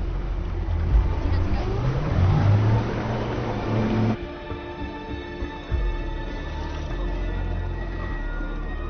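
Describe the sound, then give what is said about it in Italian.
A car engine revs loudly and accelerates, its tone climbing over a few seconds, before giving way abruptly to a quieter, steadier background hum. “Dai un po' di gas.”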